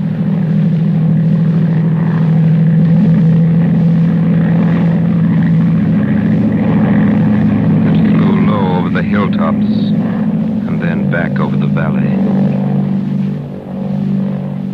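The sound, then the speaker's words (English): A propeller monoplane climbs in the blue evening sky, low down in the south, its low engine hum loud and constant throughout, with brief voice-like sounds rising above it in the middle before the drone fades slightly at the end. “Low down in the south, a monoplane was climbing into the heavens.”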